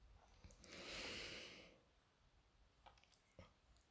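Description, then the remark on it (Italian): A deep, airy inhalation swells for about a second, then fades into near silence as the breath is held while counting to five, with only a couple of faint clicks afterward. “Poi prendo un respiro profondo e trattengo l'aria contando fino a 5.”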